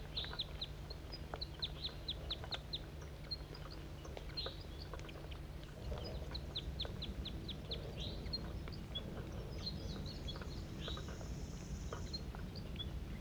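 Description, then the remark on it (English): Wild birds call in quick bursts of high, thin chirps and tweets, repeating throughout over a steady low rumbling hum, with no voices. “Wild bird.”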